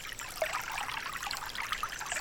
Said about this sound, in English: Gently close your eyes and listen to the trickle of water.